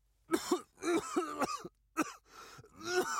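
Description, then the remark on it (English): A man has a loud fit of violent coughing as he struggles to breathe: several harsh, hacking bursts in quick succession with short gasping pauses, ending in raspy, throat-clearing coughs. “He tried to breathe, but the air burned his lungs and he violently coughed.”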